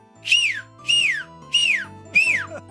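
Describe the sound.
Someone whistles an imitation of an alarm: four loud, evenly spaced tones, each swooping sharply downward in pitch, repeated in a steady siren-like rhythm with no talking.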